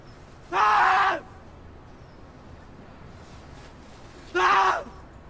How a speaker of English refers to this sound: He screams into thin air, his face creasing as if he's remembering something.